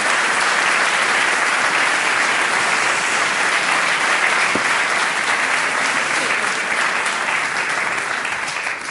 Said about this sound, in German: Hexenkessel Frankfurt. Vielen Dank für diesen frenetischen, überfallartigen Applaus. Freue mich sehr, wieder mal hier im neuen Theater in Höchst zu Gast zu sein. Ausverkauftes Haus.